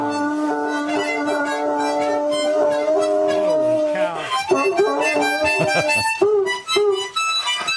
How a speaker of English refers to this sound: Here's a kid playing a harmonica with a huge tick hound. This is great. Huge tick hound. A big, big dog.